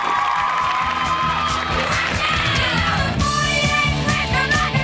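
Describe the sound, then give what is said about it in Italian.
A studio audience on an Italian TV show applauds and cheers loudly and steadily for about five seconds for Parenzo, a dense wash of clapping with whoops, over a rhythmic pulsing beat underneath. “A Parenzo subito. Applauso.”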